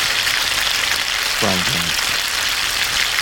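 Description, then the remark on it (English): A frying pan sound effect: steady, dense sizzling of food frying in a pan, loud throughout, with a brief muffled voice-like sound breaking through near the middle. “It's a frying pan from my folder.”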